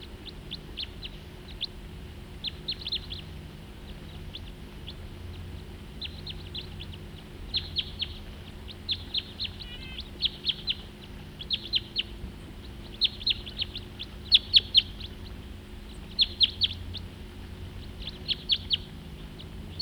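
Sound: two birds calling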